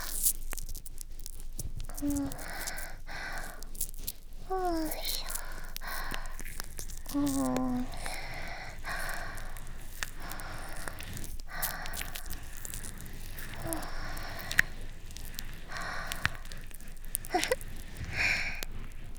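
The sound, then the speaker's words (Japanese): Soft crackling and fizzing of foam bubbles as both ears are washed with foam at the same time, continuous and dense with scattered tiny pops, steady at low volume with occasional faint squeaky tones and no talking. “泡がパチパチする音って不思議と癒し効果ありますよね。”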